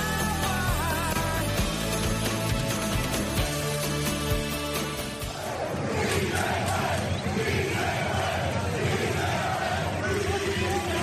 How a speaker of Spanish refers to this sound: Sí se puede, es lo que canta la afición de la Unión Deportiva Las Palmas al equipo, a la plantilla y esperando lógicamente el ascenso el próximo fin de semana.